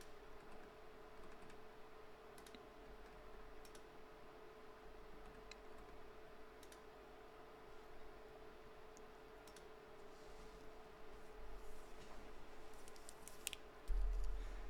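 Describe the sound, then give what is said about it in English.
Sparse, irregular, soft clicks of someone typing on a computer keyboard over a steady low electrical hum with no one speaking. “I see more people typing.”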